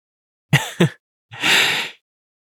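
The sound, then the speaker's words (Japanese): A yawn: two quick, breathy catches of air followed by a longer, airy, drawn-out exhale that fades away, with no talking around it. “君のあくび、映っちゃったみたい。”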